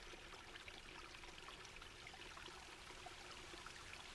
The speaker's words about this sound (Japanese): あ、ちょっと音がするかも。ほら、こっち来て。ザーって、水の音しない？